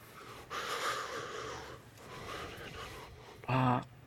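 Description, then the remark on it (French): Two drawn-out, airy sniffs through a woman's runny nose, moderately loud, followed by a brief, sharper nasal snort with a slight whistling tone. No one speaks. “Excusez-moi, j'ai le nez qui coule. Je renifle, excusez-moi, dit-elle.”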